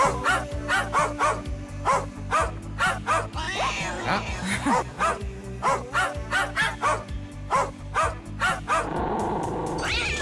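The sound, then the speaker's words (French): Dogs bark in a steady, rhythmic series over a low sustained drone, played in a dog-song quiz on Nostalgie radio, with one dog's rough growl breaking in midway and a noisier rumble near the end. “Il y en a un qui grogne.”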